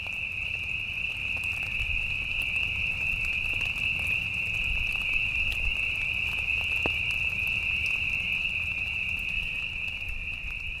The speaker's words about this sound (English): Mitchell and I heard peepers singing in the rain.